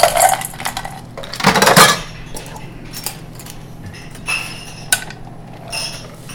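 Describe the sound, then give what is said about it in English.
A shaken drink and ice tumble into a small copper mule cup with a loud metallic clatter and rattle, followed by a few scattered faint clinks and a low steady hum, with no voices. “Pop it out, throw it in a traditional mule cup, a little copper tin.”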